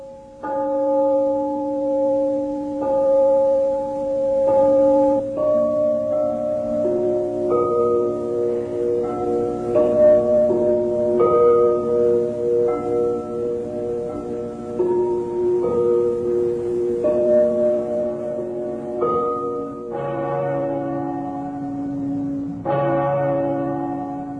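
Porcelain bells, made by craftsmen from the town of Meissen in the German Democratic Republic, ring out a slow melodic tune, each clear, bright strike sustaining and overlapping the next in a steady chiming rhythm, with no voices present.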